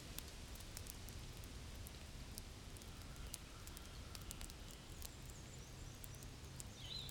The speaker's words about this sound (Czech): Venku prší. A je bouřka.